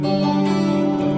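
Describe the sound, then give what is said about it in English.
A sustained electric guitar chord rings out through a Sea Machine chorus pedal and Ghost Echo pedal, on an out-of-phase setting, with a lush, shimmering chorus effect, steady and fairly loud, with no talking over it. “It's a nice, rich chorus.”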